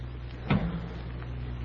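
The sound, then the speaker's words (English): The door of a maroon car opens with one short latch click and soft thump over a steady low idling hum, followed by faint shuffling as someone slides into the front seat beside the driver. “I pulled the door open and slid into the front seat.”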